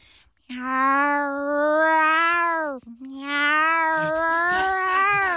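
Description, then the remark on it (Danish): A person mimics an angry tomcat with two long, loud, wavering yowls, the first rising then falling, the second stretching out strained and nasal, with no talking. “Det er en sur handkat, der bare bestemmer over gården her.”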